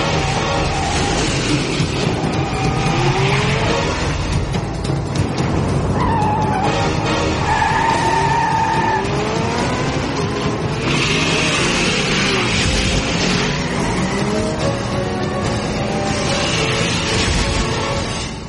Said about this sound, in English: I'm trying to get my train going.